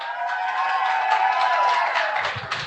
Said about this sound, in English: We got like 50 people here. Everybody, shout out. Let them hear you on the radio.